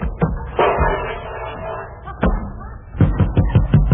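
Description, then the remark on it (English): A refrigerator door slams shut with a sharp, heavy thud, and a second solid bang follows a moment later. Someone begins talking just after. “The door of this refrigerator slammed shut right in.”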